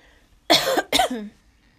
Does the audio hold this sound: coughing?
yes